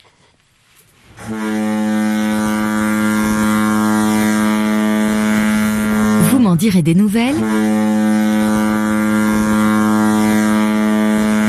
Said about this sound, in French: La corne de brume, qu'on vient d'entendre, comme celle donc que fait actionner ce personnage qui arrive assez tard dans le roman, le capitaine Owen, qui commande